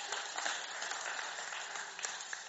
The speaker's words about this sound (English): But, you know, I think that's an amazing answer to prayer, don't you? So we can give a little clap.